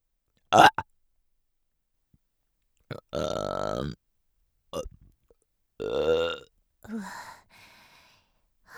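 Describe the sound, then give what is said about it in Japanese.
A series of loud burps with pauses between them: a sharp short one, then a long resonant croaking belch, followed by several shorter and fainter ones. “なんでゲップするのかって？しないと気持ち悪くなっちゃうんだよね。”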